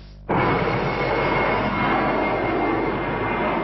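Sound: airplane flying overhead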